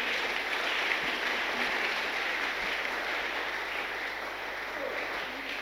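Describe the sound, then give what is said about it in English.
An audience at a church sermon claps for Jesus together in a steady, dense wash of applause that holds at an even level for several seconds without pause, with no voices standing out. “Clap for Jesus.”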